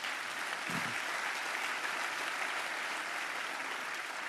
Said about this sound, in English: Because I'll tell you what, if you got a call, go ahead and clap for that. Go ahead.